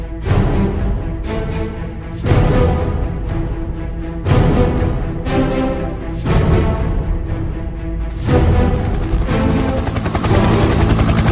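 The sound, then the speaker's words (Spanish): A loud, steady helicopter roar fills the scene, its dense rumble thumping in repeated heavy surges every couple of seconds, with no voices over it. “Nunca me gustaron los helicópteros.”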